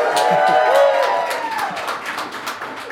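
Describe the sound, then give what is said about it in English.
A pub crowd at Brokaw Irish Pub in downtown Madison cheers, with a sliding, high-pitched "woo" rising over a dense wash of voices and scattered claps, the whole noise easing off gradually. “And there is a crowd of people here. Watching us and wooing.”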